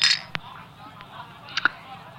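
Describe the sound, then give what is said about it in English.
Glasses clink together in a toast, a few short bright taps, the last one ringing briefly, over a soft murmur of background noise. “Well, cheers to you, Bill. To new friends.”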